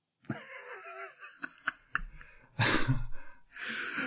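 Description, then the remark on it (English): Soft breathy sounds, then a sudden loud, explosive sneeze that bursts out as a rush of noise, followed by a second long, hissing exhalation. “bless you. No, bless you”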